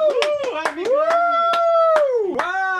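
hand clapping

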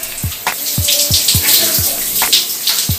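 shower water running

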